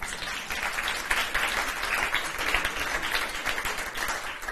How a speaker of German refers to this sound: Ein Applaus bitte dafür.